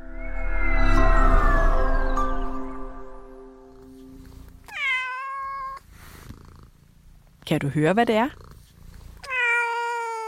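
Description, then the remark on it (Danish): A cat meows three times in the second half, each call clear with a falling pitch, separated by short pauses. A person speaks briefly just before the first meow. “Det har mange dyr også, ligesom katten her.”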